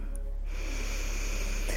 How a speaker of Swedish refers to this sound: Andas in.